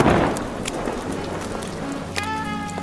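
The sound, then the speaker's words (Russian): Heavy autumn rain pours down in a steady, dense hiss of drops, even throughout, with a faint ringing tone joining in near the end. “С неба падали тяжелые капли осеннего дождя.”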